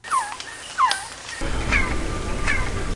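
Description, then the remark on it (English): Two quick descending quetzal chirps ring out, followed by a noisier outdoor background where two higher, thinner chirping echoes of hand claps repeat at an even pace. “The first two was an actual Quetzal chirp, and the second two was the chirped echo that you get when you clap your hands.”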